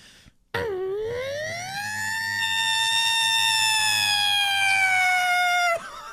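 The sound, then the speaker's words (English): A person imitates a Federal fire truck siren with their voice, one loud sustained wail that sweeps upward and holds steady for about five seconds before cutting off abruptly. “Do you know what a federal is? It's the alarm on a fire truck.”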